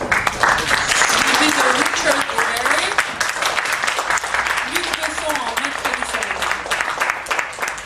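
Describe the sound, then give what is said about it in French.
A roomful of people applauds steadily and fairly loudly for several seconds at a press conference for the film The Cove, welcoming Maud Fontenoy, the dense clapping continuous throughout, with faint voices murmuring underneath. “Je vous prie d'applaudir Maud Fontenoy.”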